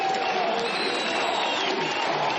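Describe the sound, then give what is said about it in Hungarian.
A large crowd in Hungary cheers and applauds loudly and continuously for minutes before a party leader's election victory speech, a dense wall of clapping and shouting voices with no pauses. “Sokáig nem tudta elkezdeni győzelmi beszédét Orbán Viktor, a tömeg percekig hangosan éjjenzett és tapsolt.”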